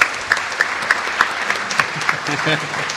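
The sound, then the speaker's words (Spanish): An audience claps steadily in a dense, sustained round of applause with scattered sharper claps, welcoming the British ambassador, Mark Kendall, as a guest on the program, and a voice starts speaking underneath toward the end. “Así que, como homenaje a todos los diplomáticos que han pasado por este programa, hemos invitado al embajador de Gran Bretaña, por quien pide un aplauso, don Mark Kendall.”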